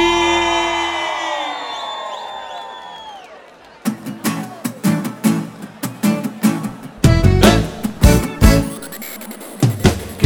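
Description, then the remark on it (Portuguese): A crowd from Guarambi lets out a loud, sustained shout and cheer that fades over a few seconds, followed by rhythmic, punchy beats as music kicks in. “Cadê o grito da galera de Guarambi?”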